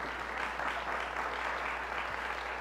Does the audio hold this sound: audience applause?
yes